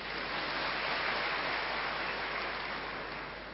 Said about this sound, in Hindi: वो भाई आ गए ना, इसलिए आप बैठ जाओ, दादा के लिए ताली बजाओ।